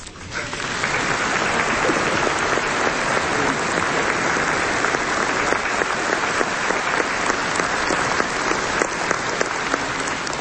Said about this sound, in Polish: Rozumiem, że te oklaski to potwierdzone dla dobrej decyzji.